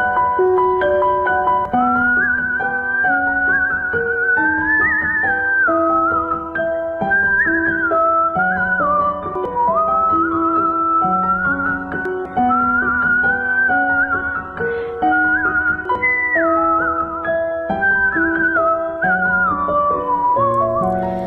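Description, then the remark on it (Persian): A melodic whistled tune rises and falls continuously over a steady instrumental accompaniment, played loud without any talking. “نوازنده ویولون، کمانچه و سوت”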